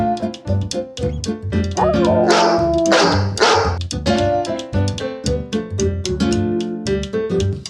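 A dog barks and yips in quick, rhythmic succession, loud, the sharp barks tumbling over one another almost without pause, with a brief whimpering whine in the middle.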